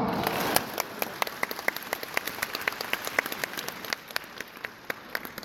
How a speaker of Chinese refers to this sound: 鼓掌